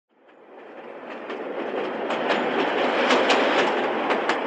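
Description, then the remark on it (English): A train rumbles by, growing steadily louder, while a rapid, irregular string of sharp cracks and pops bursts out over the roar as its wheels pass over lots of little explosive devices stretched along the track to alert workers. “In this case, safe meaning lots of little explosive devices stretched out along a train track.”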